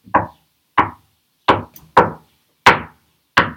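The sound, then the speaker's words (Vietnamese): Six sharp wooden knocks on a door at an uneven pace, each a crisp thud with a quick decay, fairly light, with silence between them. “Chú ếch vừa nhảy lên một cái thì có tiếng gõ cửa rất nhẹ phía sau.”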